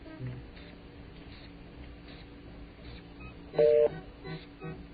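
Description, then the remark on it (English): A single brief electronic telephone tone, a German ringing tone, sounds once near the end, steady and mid-pitched, over a faint, muffled low background with no talking. “A German ring.”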